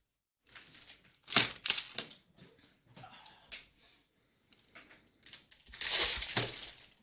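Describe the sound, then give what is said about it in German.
Crinkling snack packaging: bursts of sharp, crackly plastic rustling come in irregular clusters, with a long, loud rustle near the end. No voices are heard. “Vielleicht holst du sie schon mal alle aus der Packung, damit es nicht knistert, wenn du sie gleich währenddessen isst.”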